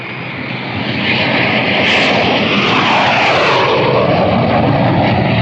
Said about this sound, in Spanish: El enorme jet particular empieza a elevarse. Allá va.